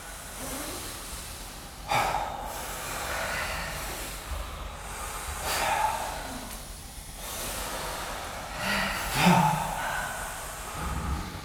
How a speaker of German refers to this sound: Nehmt noch 3 tiefe Atemzüge in eurem Rhythmus.